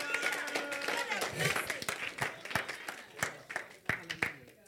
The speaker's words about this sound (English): Clap for the Lord Jesus.